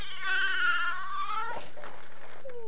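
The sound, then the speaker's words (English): A cat upstairs lets out one long, drawn-out meow that slowly falls in pitch, clear, followed by a brief soft clatter and quiet background noise with a faint steady hum. “Listen to the cat.”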